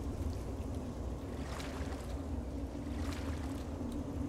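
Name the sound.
water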